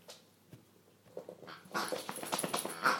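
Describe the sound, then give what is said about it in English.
A dog named Nitro whimpers and whines in short bursts while fetching his toy pig, growing busier and louder halfway through as it scuffles, with faint rustling and no talking. “Go get your toy. He's going to get it. Come on. You're bringing it back. Drop it.”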